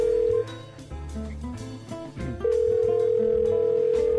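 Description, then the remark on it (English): A steady telephone dialing tone from a very old phone hums loudly, cuts out briefly, then returns and holds to the end, with a rhythmic, music-like bass pattern playing underneath throughout. “Oh, I like the dialing music.”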